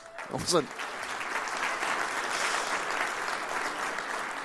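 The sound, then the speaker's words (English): A church audience claps steadily in a sustained wash of applause marking a staff member's 15-year work anniversary at the chapel, with a brief voice heard at the very start before the clapping takes over. “I wasn't looking for an applause, but just what a wonderful church you are.”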